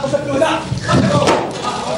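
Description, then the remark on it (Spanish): A shoe thrown at President George Bush from the journalists' area strikes the wall just behind him with one sharp, loud smack partway through, over a steady murmur of voices and commotion. “Es ese golpe que se escucha contra la pared donde impacta el zapato justo detrás de Bush.”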